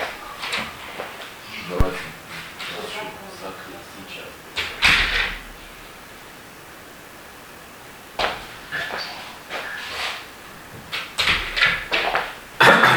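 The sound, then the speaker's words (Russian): A child closes a door with a sharp thud, followed by further knocks and clattering handling sounds against a quiet background; faint voices may be present. “Ребенок после дверь закрыл.”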